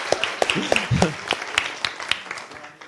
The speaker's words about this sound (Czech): Já myslím, že potlesk určitě.